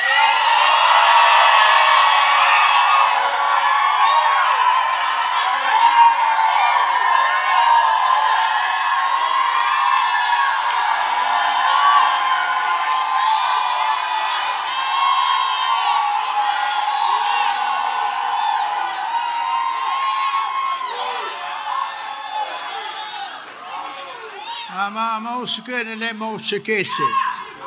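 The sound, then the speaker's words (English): A large crowd screams and cheers loudly and continuously, a dense wall of high-pitched voices that holds steady for nearly half a minute before thinning out at the end. “If you need to scream, go ahead and scream.”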